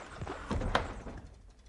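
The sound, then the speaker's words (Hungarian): A few muffled footsteps, then a house door swings shut with one sharp thump, followed by quiet with only faint background noise. “Hát akkor menjünk be a házba. Ha becsukunk ajtót, ablakot, a zaj is kint marad.”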